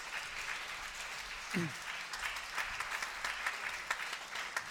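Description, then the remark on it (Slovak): Steady applause from a church audience for the fathers, who stand up, fills the whole stretch, a dense wash of many clapping hands at a moderate level, with a brief low vocal sound poking through early on. “takže môžeme to urobiť teraz tak, že dáme potlesk tým otcom a tí, ktorí ste otcovia, tak a nehanbite sa za to, môžete povstať a dáme vám jeden veľký potlesk.”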